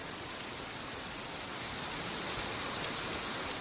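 Heavy, torrential rain pours down in Málaga in a steady, dense hiss as floodwater begins to cover the street, loud and continuous with no pauses, drumming on surfaces. No voices are heard.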